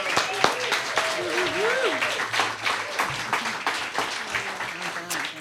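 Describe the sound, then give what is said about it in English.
A crowd claps steadily and loudly for several seconds for the songwriters, a dense wash of applause, with a few voices calling out and talking over it. “A shout out for our songwriters.”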